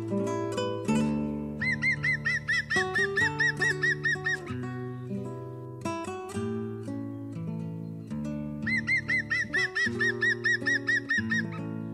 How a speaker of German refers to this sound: Das war der Grünspecht.